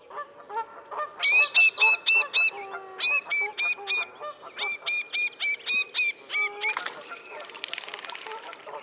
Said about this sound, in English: Little grebes have a number of anxiety calls, such as this from an individual at close range.